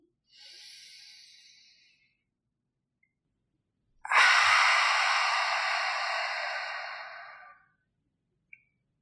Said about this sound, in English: We'll inhale through the nose to fill up the lungs and exhale through the mouth, making a sound like fogging a mirror. So it will sound something like this. Exhale completely. Go ahead, breathe in.